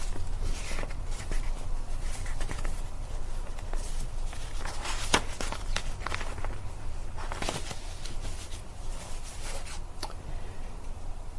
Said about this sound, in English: So I got my papers out of order here, and I need to shuffle for a few minutes.